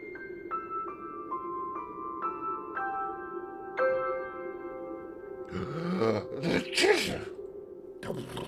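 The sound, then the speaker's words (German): Bright tinkling notes step downward, then a snuffling buildup breaks into two loud sneezes with a groaning, animal-like snort, followed by another short burst at the end. “Gesundheit.”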